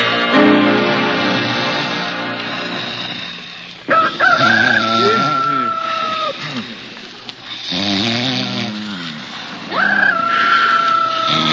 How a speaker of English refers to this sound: What's that? So what's to get excited? A rooster? A rooster? You know, a he chicken.